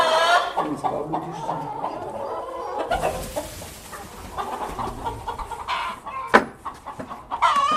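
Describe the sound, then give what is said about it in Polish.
Hens cluck and chatter continuously in a busy henhouse, overlapping calls with occasional sharper squawks rising above the steady flock noise. “No to cicho kury.”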